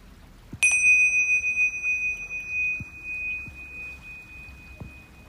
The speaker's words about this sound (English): When you hear the bell, I want you to begin focusing on your breath.